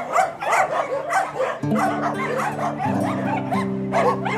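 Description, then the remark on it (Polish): A chorus of many dogs at a dog shelter housing 141 dogs, barking over one another nonstop, with yips and sharp barks overlapping, plus some drawn-out whining tones underneath, loud throughout. “Tak właśnie sądzimy, że jednak każda pomoc jest tutaj potrzebna, bo tych piesków przybywa, no także...”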